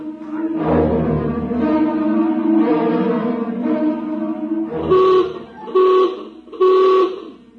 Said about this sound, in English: Now hear this. Now hear this. General alarm. General alarm. Emergency stations. Emergency stations. Condition red. Sidearms will be issued to all personnel. General alarm.